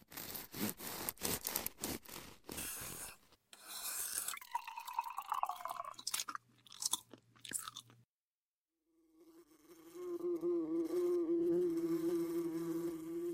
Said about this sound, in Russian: На варенье слетелись мухи, целых 7. Кружат над столом, над портняшкой. Каждый пытается сесть и на масло, и на хлеб, и на варенье.